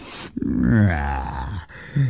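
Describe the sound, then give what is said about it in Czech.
A voice performs a loud, drawn-out yawn that slides into a low stretching groan, prominent, followed by a brief short grunt at the end, made while sitting up and starting to stretch. “hlasitě zívl, posadil se a začal se protahovat.”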